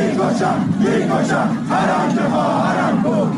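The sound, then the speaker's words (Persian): A large crowd gathered at the 40th-day memorial ceremony for Mahsa Mogoi in Fooladshahr, Isfahan, Iran, roars continuously, many voices shouting and chanting together in a loud, dense wash of sound with rising and falling swells and no single voice standing out. “در فولادشهر اصفهان جمعیتی انبوه در مراسم 40 مهسا موگویی گرد آمده بودند.”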